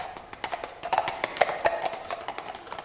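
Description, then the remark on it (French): Horses' hooves clop along a paved avenue in an irregular, overlapping rhythm. The sharp knocks are moderately loud, swell slightly toward the middle, and come with no voices. “Comme elle achevait ces mots, on entendit des pas de chevaux dans l'avenue.”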